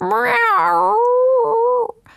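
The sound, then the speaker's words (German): A cat's single loud, drawn-out plaintive meow, wavering in pitch for nearly two seconds before cutting off abruptly into near silence, as the cat sits in front of an apartment door. “Sie setzte sich vor die Wohnungstür und miaute laut und kläglich.”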